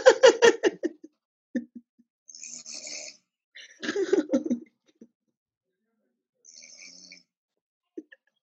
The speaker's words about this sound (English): And then mine is here, and there's no sleep talking, but it's all snoring. So listen.